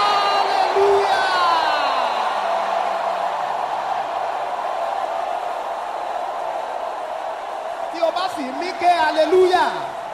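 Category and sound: crowd, audience shouting hallelujah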